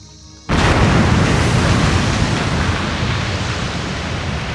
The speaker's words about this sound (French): Les anges ayant des ailes, et le barbare échappant à l'explosion par on ne sait quel miracle, seul le rôdeur était resté.